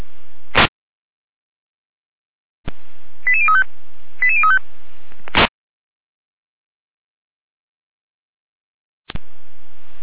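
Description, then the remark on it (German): A German radio dispatch alerting tone sequence: two quick bursts of rapid stepped beeps, framed by sharp squelch clicks and a faint hiss of open radio channel, with no voices; alerting the fire brigade at 11:39 to a reported oil spill on Bergstraße toward Görkwitz. “Leitstück ja mit Alarmierung.”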